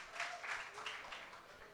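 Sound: audience applause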